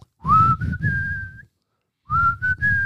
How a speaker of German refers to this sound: Wenn du das schaffst, ne? Du pfeifst 3 Töne und einer weiß, welcher Song das ist, ne? Ja, aber raus. Das war aber mehr als 3 Töne. Ja. Ja, und das kann alles sein.